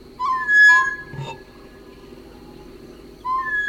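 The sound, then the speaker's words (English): Two birds trade clear, flute-like whistles in a duet, recorded on 7 August 1963: a low mellow note answered by a higher, sustained tone. The exchange starts again near the end, fairly loud, with no talking. “7th of August, 1963, a flute duet.”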